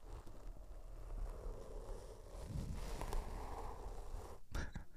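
Continuous scratchy rustling of a man's mustache brushed over a microphone for ASMR, a dense crackling friction noise that swells and fades over several seconds, with a few sharper scrapes near the end.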